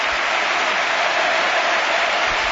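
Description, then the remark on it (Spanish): A standing crowd at the Carlos Tartiere stadium in Oviedo applauding steadily as Spain player Andrés Iniesta is substituted during a match against Moldova, a dense, continuous wash of clapping that stays loud and even throughout with no voices standing out. “En Oviedo, en el Carlos Tartiere, aplaude el jugador de la selección española, el jugador del Barça, todo el mundo de pie para despedir a don Andrés Iniesta.”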